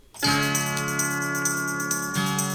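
The 'Lady Bell's Beller' bell jingle on WRCO radio, signalling the sixth-caller contest for June Dairy Month: a bright ringing tone that sounds on its own, sustained and shimmering and rich in overtones, with a second ring changing the pitch near the end.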